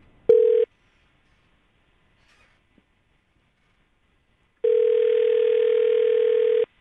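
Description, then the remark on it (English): A telephone ringback tone heard from the caller's end of an outgoing call made for the morning show segment Waiting by the Phone: a steady electronic purr cuts off briefly, then after a few seconds of quiet a second long ring sounds, clear and fairly loud. “I'm calling you for Waiting by the Phone, which is a segment we do on our morning show.”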